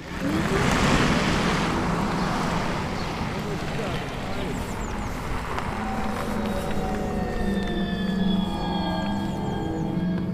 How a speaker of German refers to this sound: habe ich mich auf eine kleine Probefahrt mit einem E-Auto begeben. Und das klingt dann ungefähr so.